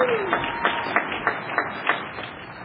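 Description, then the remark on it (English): A small group claps in a steady, even rhythm, with sharp distinct claps every third of a second over a soft wash of crowd noise. “and I think AA is making a big comeback in the program of Alcoholics Anonymous, and for that you can applaud yourself.”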